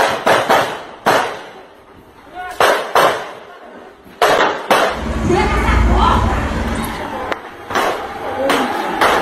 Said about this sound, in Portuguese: Uma câmera de segurança do local flagrou quando três homens armados circularam em uma rua do bairro por volta das 21 horas e 30 minutos e, em seguida, são ouvidos vários disparos de armas de fogo.